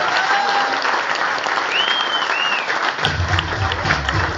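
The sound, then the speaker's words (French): Dense, sustained, loud applause from an audience welcoming Captain Biscotto fills the whole stretch, with a few faint whistles rising above the clapping and a low rumble joining near the end. “Je veux bien sûr parler de Captain Biscotto, que je vous demande d'accueillir et d'applaudir maintenant.”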